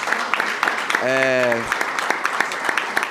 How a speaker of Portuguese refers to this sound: Então, quebrando mesmo o protocolo, eu queria pedir mais uma salva de palmas para o senador.